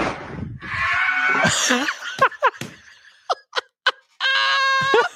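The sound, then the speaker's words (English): A person in a played video clip screams and wails in pain, apparently from a broken rib, starting with a strained cry, breaking into several short sharp yelps, then ending on a long, loud scream. “Play that last little bit again. The scream.”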